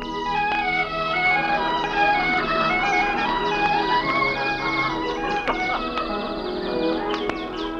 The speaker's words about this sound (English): The sun is just rising over the snow-capped mountains. Birds are twittering in the giant redwoods.